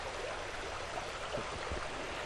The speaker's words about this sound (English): And in honor of the stream that flows within our hearing